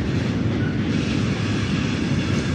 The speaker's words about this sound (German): Der Zug ist auch gleich vorbei.